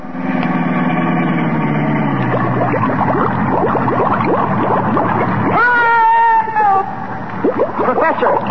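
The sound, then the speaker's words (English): A sealed-up car's engine revs and drops in pitch as it is driven into a bay about 100 feet deep, then gives way to loud splashing and gurgling bubbles, with a sliding whistle-like tone near the end as the car sinks. “I don't need a bridge. I'll drive across the bay. But, Colonna, the bay is 100 feet deep.”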